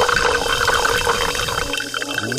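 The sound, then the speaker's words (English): Club soda pours steadily into a glass held over a microphone, a continuous splashing, fizzy hiss that holds for a couple of seconds, with a faint rising tone near the end as the glass fills. No one speaks. “There goes that club soda into that glass, over that microphone.”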